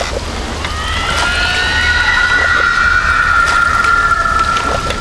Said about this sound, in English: Fingernails on the blackboard. The cry of a stricken hawk. Sheet metal squeezed in a compactor. Each would remember the banshee wail differently, loud and fresh and terrifying, to their dying day.